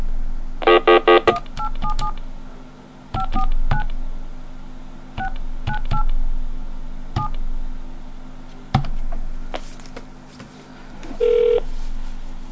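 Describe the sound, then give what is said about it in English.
A quick burst of touch-tone beeps opens as a telephone call is dialed back, followed by clicks and scattered single dial tones, then a steady tone near the end, with a faint hum underneath and no talking. “Hold on, I'll call him back and get it. Okay, let me flash over again.”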